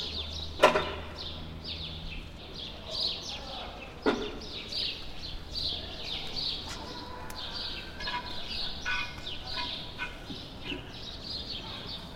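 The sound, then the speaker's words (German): Birds chirp and sing steadily outdoors, a busy layer of high tweets from several birds, with a couple of sharper knocks and soft background hum. “Es kommen dann natürlich irgendwann die kleinen Sachen, eben die Vögel überall.”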